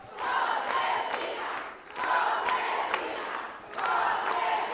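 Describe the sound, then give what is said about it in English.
A large crowd of women in a long banquet hall in Ciudad Juárez, Mexico, cheers and shouts as Josefina Vázquez Mota speaks at a campaign event, in three sustained, high-pitched swells, each rising loudly and dipping briefly before surging again, with occasional claps or thumps mixed in. “When she speaks, they cheer.”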